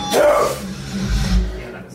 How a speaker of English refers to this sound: back in the studio recording their next album, and it's sounding heavy AF. The latest clip the band shared from the session shows … bringing back the deathcore growls.